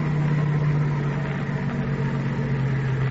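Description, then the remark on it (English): A car engine idles steadily with a low, even rumble and a constant hum, moderately loud, with no talking over it, as the car pulls over under a tree along a road with no other cars coming. “How about stopping along here? No cars coming.”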